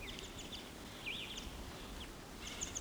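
Short, high bird calls from a male bird sitting at the top of a dead pine ring out over steady low background rumble, including a distinct rising-falling whistle-like note and scattered chirps, with no voices.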